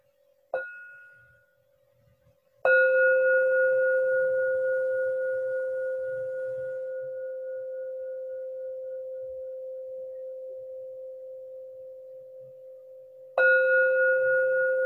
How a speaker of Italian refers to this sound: Adesso ascolto tre suoni di campana che danno inizio alla mia meditazione.